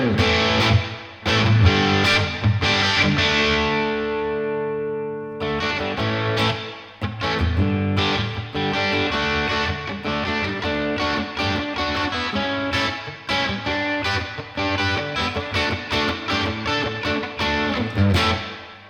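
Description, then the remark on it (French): Electric guitar through an amp with its built-in reverb turned all the way up, chords and notes ringing into a long, washy tail that fills the gaps between strums, played continuously and fairly loud with no talking. “on va pousser la reverb à fond pour entendre un petit peu ce qu'elle donne dans le réglage le plus extrême.”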